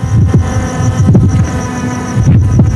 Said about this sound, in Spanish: Esto ocurrió al filo de la medianoche en la segunda sección. Andaban volando drones que fueron captados por la red. Ahí está el sonido original.